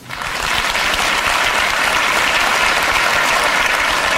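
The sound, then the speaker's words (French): An audience breaks into applause, those among them who have children clapping, a dense, steady wash of many hands that swells quickly and holds at an even, loud level throughout. “Alors, applaudissez celles et ceux parmi vous qui ont des enfants.”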